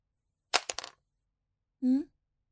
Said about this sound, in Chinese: 笔掉了。那你自己捡起来哦。